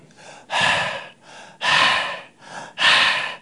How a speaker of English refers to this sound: I've given four breaths. Which of them is a lie? Which of them is truth? It's all the same.